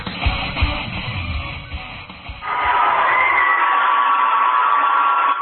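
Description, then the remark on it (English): A high school basketball crowd cheers and roars loudly and steadily, first with a dense rumble of voices and stomping, then swelling into a sustained high-pitched wall of shouts and whoops. “the squeak of the sneakers, the swish of the nets, bounce of the ball, and amped up crowd can only mean one thing.”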